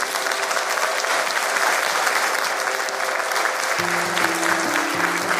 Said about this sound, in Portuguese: Uma salva de palmas para a nova Santa Maria Maior.